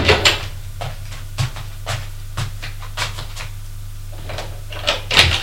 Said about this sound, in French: Il ouvre les portes.